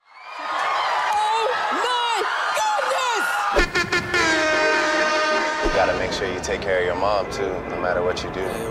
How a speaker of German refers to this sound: Solange Hausfrauen vor Freude schreien, ist alles gut.